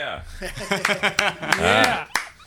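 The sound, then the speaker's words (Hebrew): A handful of sharp, scattered hand claps, called for as twenty claps in a studio, ring out at uneven intervals, mixed in with lively voices and what sounds like chuckling. “תן לו את ה-20 כפיים שם.”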